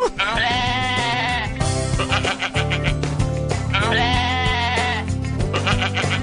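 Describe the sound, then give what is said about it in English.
Two long, quavering pygmy goat bleats, loud and high-pitched, each wavering for over a second, with harsh nasal bursts between them over a steady low hum. “Pygmies are cute. They're really little... They'll they eat things like the bumper of your car.”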